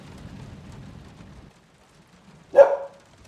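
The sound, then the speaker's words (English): A single sharp dog bark rings out after a stretch of soft, steady rain-like patter that fades into near silence. “Looks like I got your dog's endorsement.”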